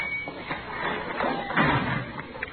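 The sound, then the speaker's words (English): A door is shoved open hard, with a scraping, rumbling push that swells to a heavy thud midway, then a short sharp click near the end over a noisy background. “Oh, you gotta shove that door hard.”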